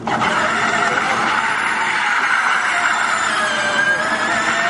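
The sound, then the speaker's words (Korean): A loud, continuous high-pitched whine from an electric racing car by the French carmaker Renault, shown at CES in Las Vegas, speeding past, its tone climbing slightly as it runs, with steady rushing noise underneath and no talking. “먼저 프랑스 자동차 회사 르노가 전기로 달리는 경주용 자동차를 선보였습니다.”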